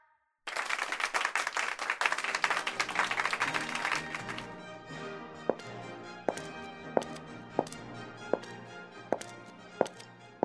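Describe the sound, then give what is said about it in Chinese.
At an award ceremony, an audience breaks into warm, dense applause as the team captain goes on stage to receive an honour medal from the mayor, lasting a few seconds, then thinning to a handful of sharp, evenly spaced single claps over soft sustained tones. “让我们以热烈的掌声，让我们的队长上台接受市长颁发的荣誉勋章。”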